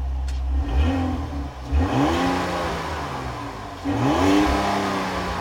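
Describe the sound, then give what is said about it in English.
The Hurricane inline-six engine of a 2025 Ram 1500 revs up in two strong bursts, the pitch climbing each time before easing back to a steady mid-range drone, fairly loud with no talking. “Engine note.”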